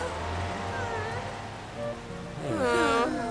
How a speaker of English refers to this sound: And it even starts raining.